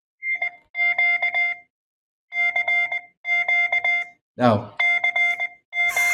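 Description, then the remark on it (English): A ham radio operator's phone ringtone, set to beep out CQ in Morse code and tested by calling the phone, plays steady two-tone electronic dits and dahs in repeating bursts with short pauses between them, briefly overlapped by a voice. “Now, since we're all hams, we know that is CQ.”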